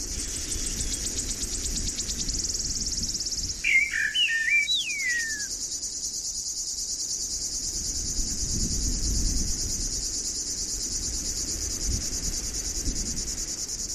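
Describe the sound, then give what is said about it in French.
Crickets chirp steadily in a dense, high-pitched drone that runs through the whole scene, with a brief warbling bird call near the start over a low rustle of wind, under a clear sky with the midday sun and growing heat as someone walks calmly. “Il fait de plus en plus chaud et vous marchez tranquillement, accompagné de quelques grillons mélomanes.”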